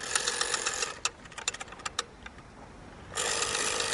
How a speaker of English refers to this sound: The term dial-up came from this rotary dial.